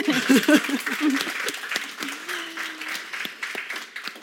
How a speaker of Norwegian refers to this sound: Det så bra. En applaus til.